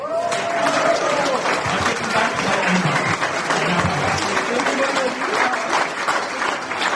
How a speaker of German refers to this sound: Wir sagen Danke an HLNL. Ein Applaus.